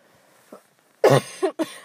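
human body sound, coughing

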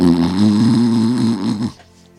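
human body sound, snoring

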